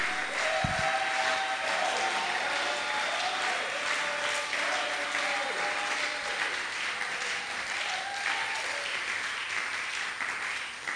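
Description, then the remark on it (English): A large church audience claps steadily and enthusiastically, with cheers and shouts rising over the sustained applause for the full stretch, loud. “Somebody must clap for it.”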